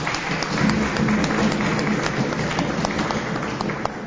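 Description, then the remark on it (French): An audience in Kasaï province applauds the provincial head of the gender, family and children division, steadily for about four seconds, a dense wash of many hands clapping with scattered sharper claps, holding an even level throughout. “Est-ce qu'on peut également l'applaudir?”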